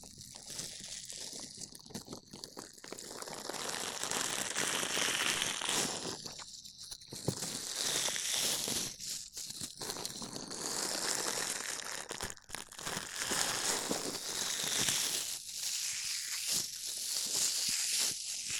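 A dish sponge rubs and scrapes against a microphone, producing steady, loud, crackling and crinkling friction noise with uneven strokes and brief pauses, and no voices.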